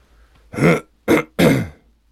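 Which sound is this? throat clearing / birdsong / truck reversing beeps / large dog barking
throat clearing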